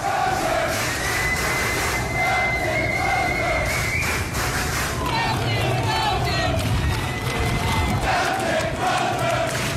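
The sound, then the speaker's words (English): A large crowd of sailors cheers and shouts for Captain Brett Crozier as he is walked off the ship, a loud, dense wall of overlapping voices with yells rising above the roar for the whole stretch. “And his sailors are cheering him because.”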